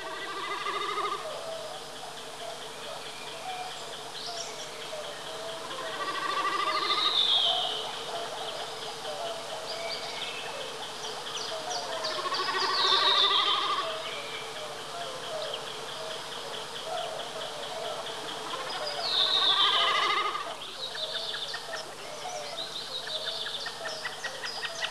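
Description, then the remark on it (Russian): A common snipe drums high in the blue sky as it dives, its vibrating tail feathers making a bleating, tremulous hum that swells and fades three times, roughly every six or seven seconds, over faint outdoor background. “Вот он пикирует, слышно, как вибрирует перья хвоста.”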